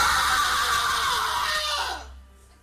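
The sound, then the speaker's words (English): A mother lets out one long, shrill scream at 2 o'clock at night that holds loud and steady for about two seconds before breaking off into quiet. No one speaks. “Then at 2 o'clock, the scream awakes him.”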